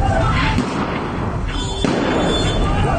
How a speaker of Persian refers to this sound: یک شنبه 24 رو در اغلب شهرهای کردنشین کشور هم اعتراضات بیوقفه ادامه دارد. اینجا در کرمانشاه صدای تیراندازی شنیده می شود.